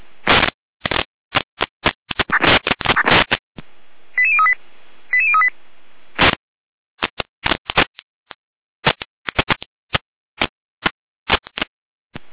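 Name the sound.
radio alerting tones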